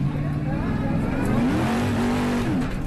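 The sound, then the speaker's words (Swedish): A rally car engine at the 2016 Abu Dhabi Desert Challenge, filmed by driver Jutta Kleinschmidt in the desert dunes, revs loudly, its droning pitch dipping, then climbing steadily as the motor accelerates, with a continuous rough mechanical roar throughout. “Klippen ni hörde kommer från Abu Dhabi Desert Challenge 2016 och är filmade av föraren Jutta Kleinschmidt.”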